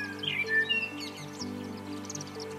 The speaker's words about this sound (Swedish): Det var en tidig försommarmorgon och Joy hade just vaknat. Solen tittade in i humleboet och utanför hade fåglarna kommit igång med sitt glada kvittrande.